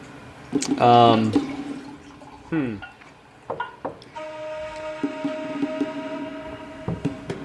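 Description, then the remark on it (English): Wine is poured into a glass, with two short pours whose gurgle rises in pitch as the glass fills, followed by quiet clinks and soft background noise. “pours a glass of wine”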